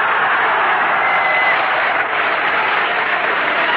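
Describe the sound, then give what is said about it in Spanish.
A Peruvian crowd applauds a speaker steadily, a dense wash of many hands clapping at an even, loud level throughout with no pauses, and no voices standing out above it. “¿Qué me aplaudes si estoy aquí porque tú lo quisiste?”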